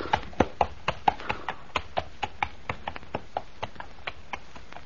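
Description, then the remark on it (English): Horse hooves clip-clop at an easy walking pace as the horse is led to the stable, a steady run of sharp knocks on a hard surface that grows slightly fainter toward the end, with no voices. “Shall I take the horse to our stable, sir?”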